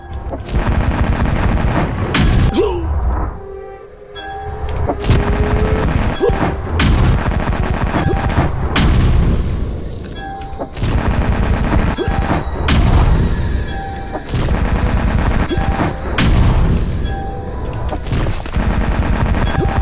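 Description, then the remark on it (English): Heavy cannon fire booms again and again in a loud, dense barrage lasting the whole stretch, with brief lulls between volleys and whining tonal effects threaded through the blasts, as a crew fires cannons in a battle with a ghost ship. No one speaks. “The crew quickly move towards the cannons that... You have reached main skeleton cannons. Alien position. The battle begins.”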